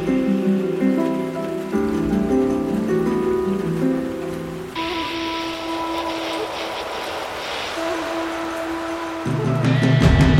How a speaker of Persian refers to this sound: بزن با پنجره حرف دلت را، پچ پچ باران.